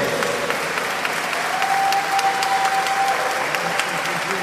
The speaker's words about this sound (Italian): Vogliamo fare un applauso enorme a Gesù e al suo sangue prezioso. Alleluia! Più forte!